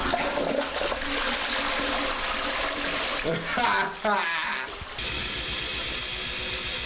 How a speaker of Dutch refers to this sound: Je wordt hem horen doorspoelen ook nog.